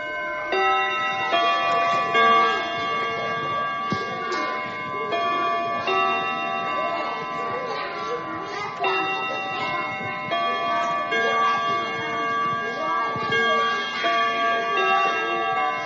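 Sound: school class bell ringing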